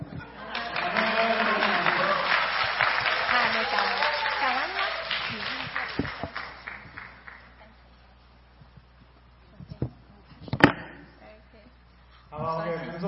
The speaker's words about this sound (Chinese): 掌声。